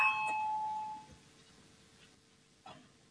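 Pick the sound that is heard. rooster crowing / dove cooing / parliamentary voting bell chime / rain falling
parliamentary voting bell chime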